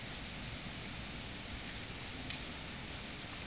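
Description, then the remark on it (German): Steady, soft rain falling continuously, a fine even hiss of drops with no voices or other distinct sounds, fairly quiet and uniform throughout. “Und es regnet.”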